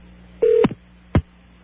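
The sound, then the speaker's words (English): A phone number is dialed to reach AT&T International Information: a brief steady electronic tone ends in a sharp click, then a second click half a second later, with no one speaking. “We're simply going to get the proper authorities on the phone and demand a suitable reply from them.”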